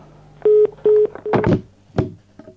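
Three short, steady beeps from a telephone keypad sound in quick succession as a telephone number is dialed, followed by a couple of louder clicking, rustling bursts. No one speaks.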